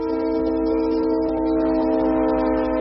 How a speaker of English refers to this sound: Ann Arbor has 21 of those crossings. Many are downtown, some just a block apart. Every train's horn sounds more than 160 times round-trip through the city.